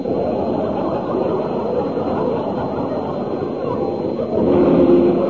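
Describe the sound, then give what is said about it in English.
A train rumbles along the line with a dense, continuous roar that swells louder near the end, as if drawing closer, with a faint tonal hum emerging. “Well, of all the dark places to turn in, straight up the railway line.”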